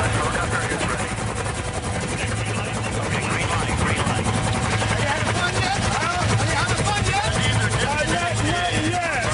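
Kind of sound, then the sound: vehicle, helicopter rotor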